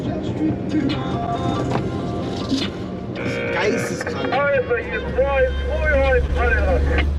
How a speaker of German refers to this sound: Die Kolonne gepanzerter Fahrzeuge windet sich wie ein vielgliedriger Wurm durch die Wüstenlandschaft.